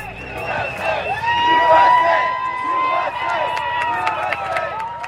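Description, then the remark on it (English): A crowd of gay-marriage supporters shouts and cheers continuously in front of the United States Supreme Court building in Washington, D.C., reacting to the court's decision. Many raised voices overlap in rising and falling calls that stay loud and steady for the whole stretch, with no clear single speaker. “Those shouts were from people who support gay marriage.”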